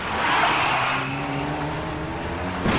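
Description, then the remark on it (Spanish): A car engine roars and revs as the newly bought car pulls away from the dealership, its steady hum rising in pitch, then a sudden noisy burst as it crashes right at the end; a scene from the film Torrente 2. “Se chocaron nada más comprar el coche, coger el vehículo.”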